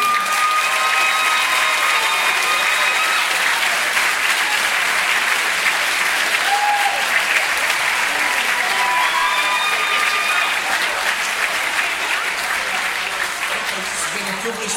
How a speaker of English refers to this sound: Many congratulations to all the winners and nominees this evening. Please give them all one final round of applause.